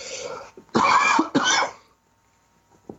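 A loud fit of coughing or sneezing on live radio: a softer lead-in followed by two harsh, rough bursts in quick succession, then near silence with one faint catch at the end.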